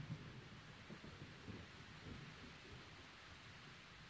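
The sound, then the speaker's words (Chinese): Low, rumbling thunder rolls continuously outside beneath a steady hiss of heavy rain during a storm, the storm sounding muffled, with no voices present. “你听，外面还在打雷，我一个人睡会害怕的。”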